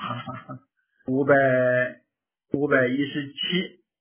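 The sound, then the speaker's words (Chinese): A person imitates a cow mooing, giving two drawn-out, voiced moos about a second each after a brief vocal sound, fairly loud, with no other sounds around. “要是早的话，你学两声牛叫，你也不能说是学普化的。”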